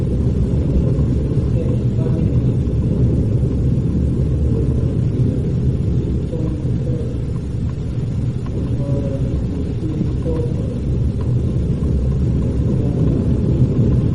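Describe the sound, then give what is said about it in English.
An A-train subway train rumbles steadily for the whole stretch, a dense, low, continuous roar with an even loudness and no clear breaks or voices on top. “the A-train is rumbling.”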